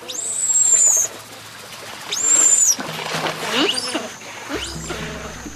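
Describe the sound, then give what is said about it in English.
Giant otters in a troop call in a rapid series of high, squealing screams of excitement, with two strong shrill bursts followed by softer chirps and low hums of reassurance, no talking over them. “Alarm snorts, screams of excitement, and hums of reassurance all help maintain cohesion in the troop.”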